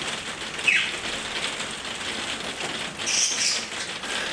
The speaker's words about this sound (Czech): Pořád prší, no. Taky tu znějí nově andulky.